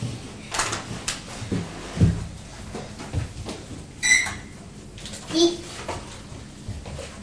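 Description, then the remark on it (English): Clothes pegs clatter into a drawer with a few light knocks and scrapes while a young child babbles and talks softly in the background. “So put them in the drawer over here,”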